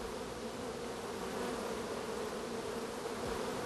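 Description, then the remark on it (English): A steady, dense drone of many honeybees buzzing at a hive, those facing inward fanning their wings to cool the hive and direct air currents into the entrance, with a faint hum layered through it and no voices. “The ones facing inward are fanning to cool off the hive.”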